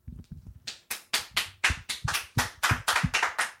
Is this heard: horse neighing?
no